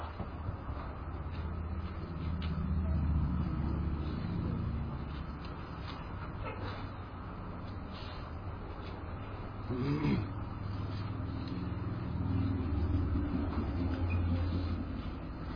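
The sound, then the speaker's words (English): A steady low rumble of heavy morning road traffic, with engines swelling and fading as vehicles pass, some passes louder than others. No one speaks. “A lot of traffic this morning. Must be some kind of weird Jeep event going on down.”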